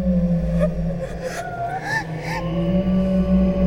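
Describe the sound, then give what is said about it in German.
Eerie wavering whistles and howls from a chimney rise and fall over a steady low droning hum, with a few soft whooshing gusts breaking through. The sound stays fairly loud and continuous throughout. “Gleichzeitig ertönte aus dem Kamin ein unheimliches Jaulen und Pfeifen.”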